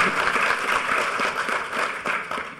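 Sustained audience applause, a dense wash of many hands clapping at a steady, fairly loud level with no talking over it, holding for nearly three seconds.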